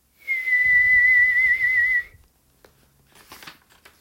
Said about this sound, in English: The dragon whistler tucks stars into her pocket, reaches far for a sunset, purses her moonlit lips, and whistles.